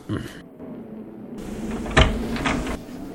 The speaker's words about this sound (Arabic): أنا قادم. هاي هاي هاي باب الدار، سأفتح لك الباب.